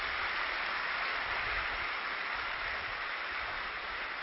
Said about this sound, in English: And they are clapping.